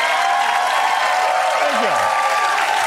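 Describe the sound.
Steady, dense applause from a large studio audience fills the whole stretch, loud and continuous, with a faint voice briefly sliding underneath near the end.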